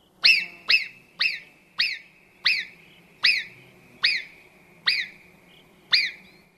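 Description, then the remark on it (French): A marmot gives a loud series of about nine shrill alarm whistles on spotting danger, each a sharp piercing chirp repeated at a steady, fairly quick pace, with no other sounds around them. “C'est l'alerte de la marmotte qui siffle dès qu'elle aperçoit un danger.”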